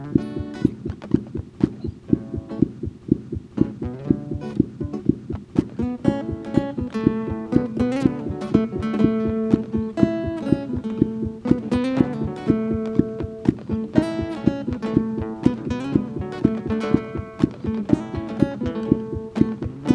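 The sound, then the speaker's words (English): A fast, steady heartbeat of a young child thumps throughout, each beat a soft low pulse in quick rhythm, woven together with plucked guitar notes and chords playing a gentle melody over it. “Here's a faster heartbeat from a younger child put to Schreck's guitar music.”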